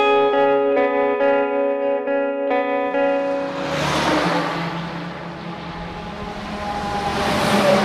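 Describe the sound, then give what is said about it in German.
A heavy engine drones with a steady, pulsing hum, then a loud rush of road noise swells as trucks and other vehicles pass on a heavily travelled road toward the Emmental, with trucks heading to Lucerne, fading and building again. “Ja, die Strasse ist recht stark befahren.”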